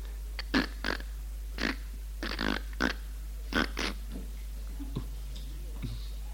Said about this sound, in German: Plötzlich hört ihr, wie die Eingangstür knarrt.